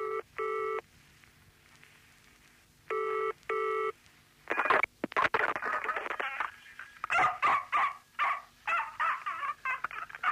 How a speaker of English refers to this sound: The dog paws the phone off the receiver when it rings and begins heavy breathing